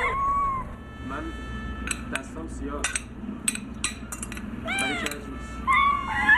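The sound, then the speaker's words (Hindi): Several cats meow in overlapping, rising and falling cries, fairly loud, with a few sharp knocking sounds scattered between them over a busy background. “बिल्लियाँ आ गईं, मैं जाकर उकड़ने के लिए दूध लाऊं।”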